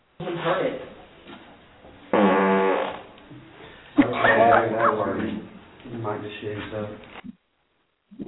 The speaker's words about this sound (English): Was that a ghost fart? No. What? That would be one of my team members farting.